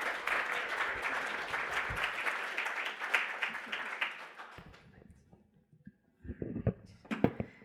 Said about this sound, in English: All right, I think we should give our presenters one more round of applause here.